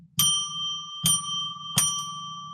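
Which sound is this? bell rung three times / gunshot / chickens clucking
bell rung three times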